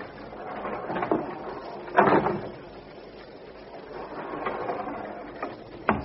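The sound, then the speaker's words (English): A lock rattles and clunks with a few sharp mechanical clicks, then a heavy second door scrapes open onto a long, narrow, windowless room amid a steady low rumble, with a final click at the end and no talking. “The second door opened to reveal a long, narrow, windowless room with rows of tall metal cases, benches, keyboards, and monitor screens.”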